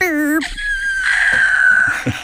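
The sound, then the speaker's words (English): A person in a studio imitates dial-up modem line noise: a warbling, harmonic squeal that drops into a long, thin, steady high whistle with faint crackly hiss and small bursts underneath, fairly loud. “Yeah, that's my line noise impression.”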